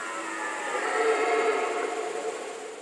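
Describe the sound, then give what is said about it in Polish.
A rutting stag gives one long, hoarse roar of nearly three seconds, rich and rasping, swelling slightly in the middle before easing off, with no other sounds or voices. “Jeśli byk jest bardziej dorodny, starszy, doświadczony, ten dźwięk jest taki donoślejszy, bardziej chrapliwy, niższy, mocarny, tubalny.”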